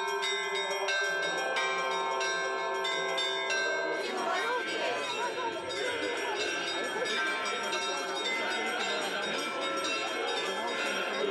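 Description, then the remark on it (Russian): Church bells ring out a festive Easter peal as a religious procession returns to the church, overlapping strikes clanging loudly and continuously, with a crowd murmuring beneath the ringing in the second half. “Богомольцев встречали пасхальным перезвоном.”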